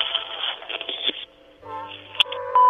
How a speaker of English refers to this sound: After the beep, leave a message. You know what to do.